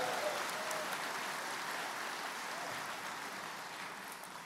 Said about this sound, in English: Yeah, you can applaud if you like.